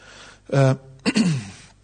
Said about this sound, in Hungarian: Különböző példákkal, egészségedre.